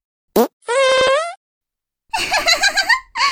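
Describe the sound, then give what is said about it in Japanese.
A short sharp fart pops, followed by a longer sustained tonal fart, then a stretch of quiet and a burst of giggly, bubbly laughter-like sounds near the end. “どうどう、耳のおならおいしい？”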